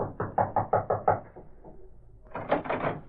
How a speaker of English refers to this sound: Then, after waiting a few moments longer, he approached and rapped on the door.